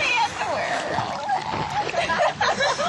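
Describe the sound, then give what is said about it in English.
Someone jumps into water with a loud splash, followed by continuous sloshing and churning water while voices talk in the background. “Meantime, someone else jumps into the water.”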